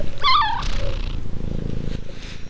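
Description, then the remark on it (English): Moni, a real domestic cat and the smallest of the household's cats, gives one short, rising meow, then settles into a steady, low rumbling purr for a couple of seconds in a studio at the Diocese of La Crosse, Wisconsin, with no one speaking. “Moni is a real cat. That's not some sound effect I found on the internet somewhere.”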